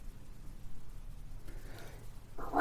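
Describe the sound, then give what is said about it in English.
After a quiet stretch of low background hum, a single loud sneeze bursts out abruptly at the very end. “Bless you.”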